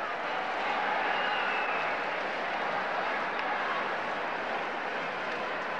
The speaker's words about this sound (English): And the applause that came 16 minutes in an eerie, spontaneous ovation was a tribute not for the living, but for the dead.